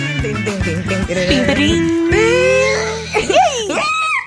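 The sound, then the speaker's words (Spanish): A short musical jingle with a baby's wailing cry woven in, rising into a long sustained howl over a steady backing tone, then breaking into a few sobbing whimpers near the end. “hay como un bebé llorando en el tantrum of the day”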